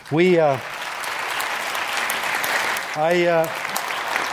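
A large audience applauds steadily throughout, a dense, even wash of clapping, with two brief rising shouts or whoops cutting through near the start and again about three seconds in.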